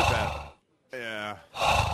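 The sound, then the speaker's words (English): Loud heavy breathing used as a radio drop: a rough exhale, a brief silence, a short voiced gasping breath, then another heavy breath. No words are spoken. “you could just do like a heavy breathing.”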